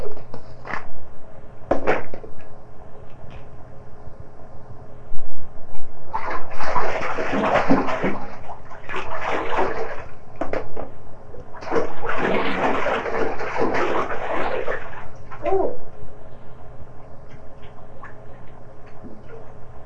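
water splashing

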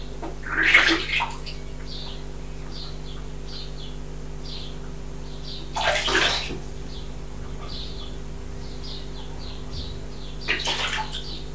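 splashing water

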